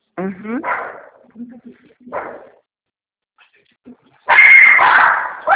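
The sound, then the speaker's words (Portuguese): The speaker's female pet dog whimpers with high, whiny yelps, gives another short bark-like burst, then after a pause lets out a louder, harsher stretch of barking. “Minha cachorra.”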